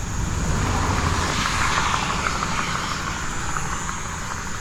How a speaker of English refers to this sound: Where's my motorcycles? Give me some motorcycle racers. Zipping around at a million miles an hour. This is also a good place to take photographs when they go zipping by.